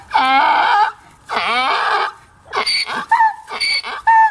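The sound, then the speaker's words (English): A donkey brays loudly, two long harsh drawn-out calls followed by a run of shorter, choppy honking bursts, with no one talking. “I know donkeys, what we've learned, if you've learned nothing on the Digimon Adventure Daniel K's Let's Plays series, then the one thing that you have learned is that donkeys sound scary.”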